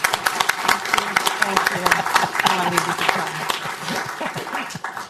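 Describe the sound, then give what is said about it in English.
An audience in an auditorium at a Brookings event claps steadily for about five seconds for the keynote participants, a dense, even crackle of many hands that stays loud throughout, with a few voices murmuring underneath. “Please join me in giving our keynote participants a very warm round of applause.”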